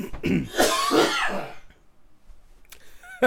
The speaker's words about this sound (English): The way you launched whatever that was out of your throat. Wow. Whoa. I think that stuck to the window.